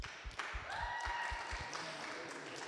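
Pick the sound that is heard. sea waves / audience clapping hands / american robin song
audience clapping hands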